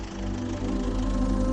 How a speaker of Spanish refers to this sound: Bueno, queremos despedirnos con este sonido, el sonido del tractor, que los tractores son sin duda protagonistas de la vendimia riojana.